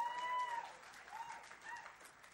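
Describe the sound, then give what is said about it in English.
A church crowd applauds a young speaker who is about to talk on setting an example in faith, a dense wash of many hands clapping at once that holds at an even, moderate level throughout, with no voices standing out. “So let's give Will another round of applause.”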